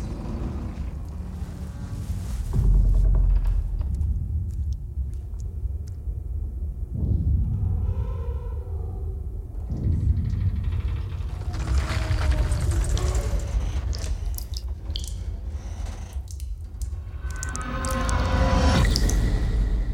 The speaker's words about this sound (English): You are now 5,000 miles from land, and you're descending 7 miles to the bottom of the ocean.